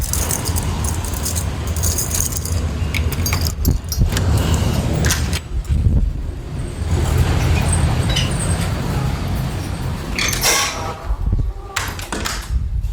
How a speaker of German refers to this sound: Ich bin sowieso gleich im Büro. Kurz die Tür aufsperren.